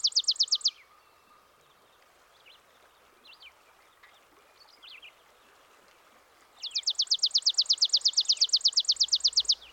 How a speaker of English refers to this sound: It must be from the sparrow family. Yes, that's the chipping sparrow, of course. It's one of the smallest sparrows. It's quite unique, though. It often builds its nest with horsehair, and when it's in the wild, it will use moose hair as well.